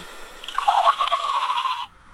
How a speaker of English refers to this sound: I followed the sound of water and found the Kükeldaş Madrasa, a big, imposing 16th century Islamic school built from yellow brick.